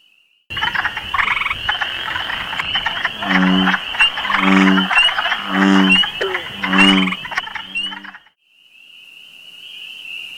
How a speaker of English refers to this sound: We're also hearing the calls of spring peepers, one of the first sounds of spring in our region. Spring peepers are tiny frogs that are barely larger than your fingernail, but they sure can make a racket when they're looking for action.